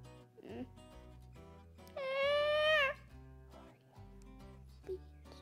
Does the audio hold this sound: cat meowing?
yes